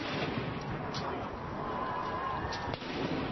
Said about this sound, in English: They're firing off the cannons.